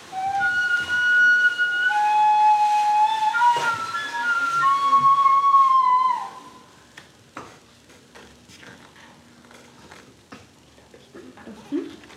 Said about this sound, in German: oben am Nordpol bläst und heult der Wind eisig.